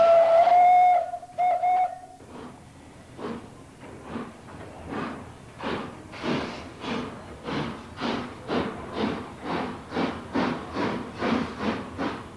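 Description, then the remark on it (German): An old steam train lets out two shrill whistle blasts, then starts chuffing out of the station at Furth im Wald, Germany, toward Domažlice in the Czech Republic, its rhythmic exhaust puffs steadily quickening and growing louder as it pulls out. “Die alte Dampfeisenbahn verlässt den Bahnhof von Furt im Wald Richtung Tschechien.”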